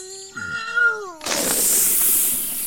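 A brief wavering, whiny tone gives way to a loud, sustained hissing whoosh as a small spirit rushes out of a green bottle after its cork pops into the air. The whoosh fills the rest of the moment without any talking.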